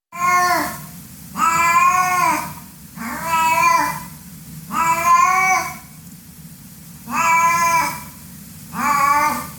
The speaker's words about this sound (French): Je pense que vous l'avez reconnu car il s'agissait du cri du chat domestique